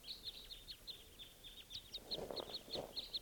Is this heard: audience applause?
no